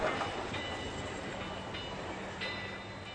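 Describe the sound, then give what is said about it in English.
A train rolls steadily along the rails over a bridge with a continuous rumbling roar and faint metallic squeals, loud throughout, with no voices. “Then Duga's father pressed the handle to turn the bridge back when a train came.”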